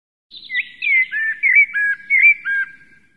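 A blackbird sitting at its nest in a bush sings a short run of clear, warbling whistled phrases, about five in quick succession, fairly loud, with no other sounds around it.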